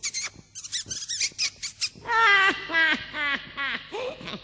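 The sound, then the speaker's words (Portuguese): A burst of shrill, rapid mouse squeaks chatters for about two seconds, then gives way to louder, drawn-out cat-like yowls in a series of wavering cries. “Para provar, neste instante, vou virar um camundongo.”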